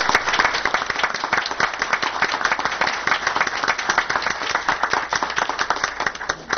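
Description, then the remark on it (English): Steady applause from an audience for the two parks staff of Grover, many hands clapping in a dense, continuous patter that holds at an even, fairly loud level throughout without any talking. “But we have the best, so I would like everybody to give them a real applause.”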